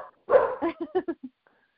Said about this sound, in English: I'm sorry. I was afraid that would happen. I'm staying at I'm at a friend's house, dog sitting, and obviously the dogs are barking.